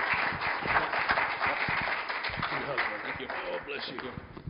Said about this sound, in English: Can you just give a round of applause again for your pastor